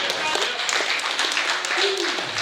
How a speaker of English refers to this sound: Hallelujah. Come on and bless him again. Clap your hands.